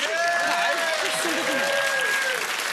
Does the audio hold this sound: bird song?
no